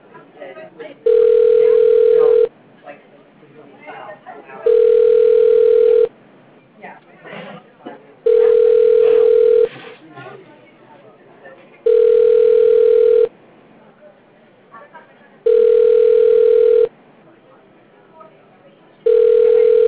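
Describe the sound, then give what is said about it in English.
An agent desktop phone at a bank rings during call testing, a steady electronic tone repeating about six times in evenly spaced bursts, loud, over a low murmur of background voices and office noise. “Does your agent desktop ringing?”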